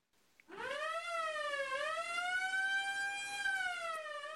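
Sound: emergency vehicle siren wailing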